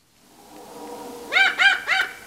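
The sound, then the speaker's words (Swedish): An eagle owl's warning call: three loud, harsh barking notes in quick succession, preceded by a steadier drawn-out tone, heard clear with no voices. “En berguv varnar.”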